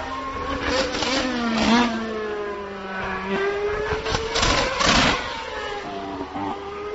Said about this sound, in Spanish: Y yo quería escuchar sobre todo y que opinaran nuestros dos pilotos de este petardeo que tienen tanto Red Bull como tanto Mercedes, que es el primero que va a sonar, como Red Bull.